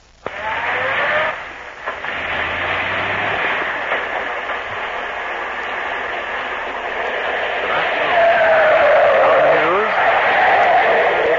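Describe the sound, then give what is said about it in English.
A Dynaflow car brakes hard in the street as the driver tries to scare a truck, its tires skidding with a loud, drawn-out screech over a steady roar of road and engine noise, the squeal sharpening near the end. “Wow, how's the brakes on the thing? Watch, see that truck? Yeah. Watch me scare him.”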